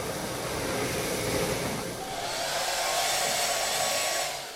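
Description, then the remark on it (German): A hair dryer blows steadily and loudly, a continuous airy whoosh whose tone shifts slightly partway through, as if the setting changed, before tapering off at the end. “Föhn?”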